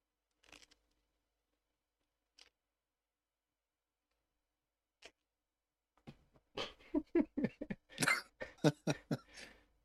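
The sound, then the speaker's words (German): Someone blows their nose: a few soft, isolated puffs, then a louder run of rapid honking, snorting bursts of air that trail off. No one speaks. “Du wolltest dir die Nase putzen.”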